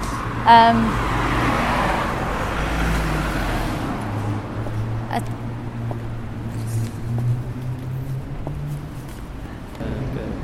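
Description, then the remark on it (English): Steady street traffic of cars and buses coming fast round a corner just past a Tesco, with a loud vehicle whooshing past in the first few seconds over a deep engine rumble, then a continuous low roadway hum and faint murmuring voices. “it seems like you nearly get run over, because just past Tesco's the cars come round the corner, so you can't really see them coming, and lots of buses come round here. And I guess the traffic drives quite fast.”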